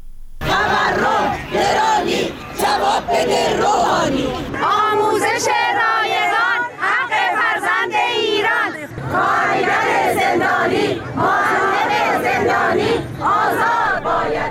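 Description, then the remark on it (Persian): A crowd of employed and retired teachers at protest rallies in front of education offices in Iranian cities (Isfahan, Khorramabad, Kermanshah, Karaj, Ardabil) chants slogans loudly in unison, voices rising and falling in rhythmic bursts with brief pauses between phrases, shouting continuously throughout. “این بخشی از شعارهای معلمان شاغل و بازنشسته در این تجمعات اعتراضی بود.”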